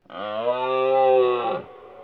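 A red deer stag bellows once during the autumn rut, a loud, drawn-out harmonic roar lasting about a second and a half before cutting off abruptly, with no other sounds around it.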